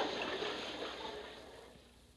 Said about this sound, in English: Chuck's in the water. The current is swift. He'll be carried over by the falls.